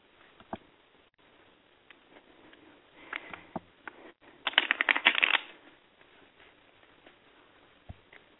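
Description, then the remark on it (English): A deck of cards is shuffled for a card reading: scattered soft taps and flicks, then a dense burst of rapid riffling in the middle before it settles back to a few quiet clicks. No talking. “Let me shuffle my cards.”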